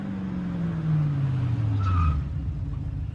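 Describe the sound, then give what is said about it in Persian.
A car, said to look like a criminals' car, drones with a falling pitch as it passes, and tires squeal briefly mid-way through, a sharp skid over the steady motor noise with no voices. “شبیه ماشین آدم خلاف ها.”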